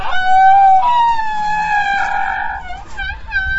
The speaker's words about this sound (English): But in addition to the trumpets, Asian elephants produce a very peculiar kind of sound that I call squeaks.